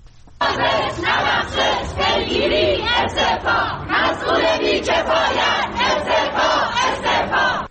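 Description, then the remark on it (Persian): A large crowd of journalists protesting on a Wednesday in front of the Department of Environment building in Iran chants loudly in unison, voices rising and falling in a steady rhythmic pulse that starts abruptly and keeps going without a break. “گروهی از روزنامه‌نگاران روز چهارشنبه در مقابل ساختمان سازمان حفاظت محیط زیست تجمع کردند.”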